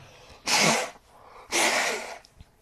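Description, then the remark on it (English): Someone blows their nose twice in quick succession, each a loud, breathy, rushing burst about half a second long, with a short quiet gap between. “I'm going to blow my nose.”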